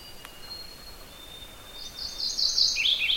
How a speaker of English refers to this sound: It's actually a very rich, full sound this little warbler makes. And I'm a little far away from it, but it's a very loud and distinctive song.